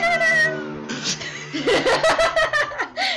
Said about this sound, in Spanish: Tenemos efectos especiales, gatunos. No sé si se va a escuchar, me imagino que grité, sí. Grité y al mismo tiempo gritó el gato.